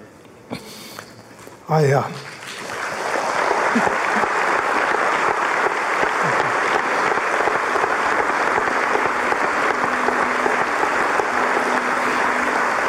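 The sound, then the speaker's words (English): A brief voiced sound gives way to sustained applause from an audience, a dense, steady wash of clapping that swells quickly and continues evenly for about ten seconds. “That applause you hear, it matters.”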